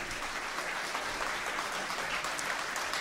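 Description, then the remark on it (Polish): A concert audience applauds steadily to welcome a musician being honoured, a dense, even wash of many hands clapping at constant loudness throughout, with no voices heard over it. “Wielkie brawa, przywitajmy go.”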